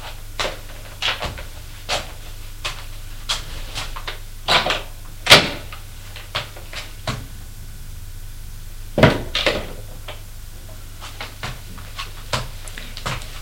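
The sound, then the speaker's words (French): Someone closes a drawer with a thud, switches off the light with a click, then walks toward the room's exit in a scattered series of soft footsteps, with a faint low hum underneath and no voices. “Puis, referme le tiroir. Éteint la lumière et se dirige vers la sortie de la pièce.”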